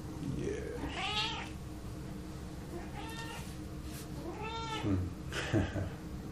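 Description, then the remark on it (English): A female domestic cat meows several times in a row, drawn-out, rising-and-falling cries at a moderate level, over a steady low background hum with no talking. “And the cat should calm down here in a moment.”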